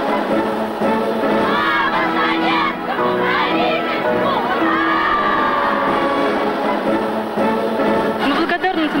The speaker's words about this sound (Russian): Он ведь все понимает, но продолжает хлопать. И эти всенародные аплодисменты длились десятилетиями.